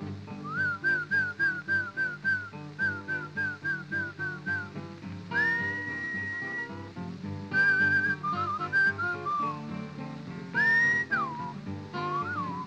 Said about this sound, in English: You must whistle when you want your horse to come to you. Something kind of like this.